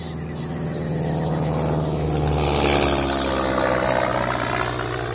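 A propeller plane drones steadily overhead, flying over the rainforest, its loud, throbbing engine hum swelling slightly in the middle and holding throughout with no voices.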